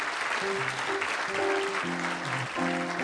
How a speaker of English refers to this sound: Well, thanks for the applause, but I need someone to raise one of those hands